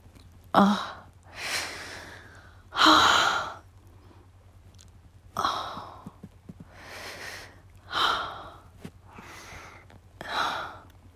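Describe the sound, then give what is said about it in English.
Heavy gasping for air while recovering after an orgasm, with about six loud, breathy gasps and exhales arriving every couple of seconds, unhurried, with no talking in between. “And I'm still gasping for air.”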